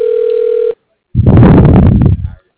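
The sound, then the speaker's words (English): A telephone rings once on the line, a steady electronic tone lasting under a second, followed by a short pause and then a brief burst of muffled, noisy rustling. “Hate when they ring forever and like nobody ever picks up and there's no voicemail.”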